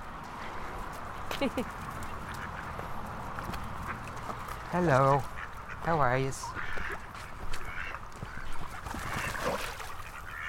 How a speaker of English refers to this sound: Right, we're approaching the ducks and the edge of the pond.